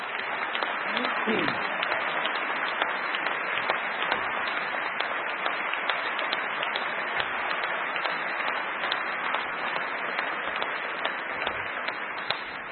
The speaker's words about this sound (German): Der Beifall zeigt, Frau Silvana Koch-Merin, Sie werden das packen.